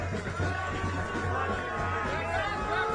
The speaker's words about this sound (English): But this is Ted Wheeler, for anyone who can't see it and is listening to the podcast, being surrounded by mobs of Antifa and booed as he tries to leave.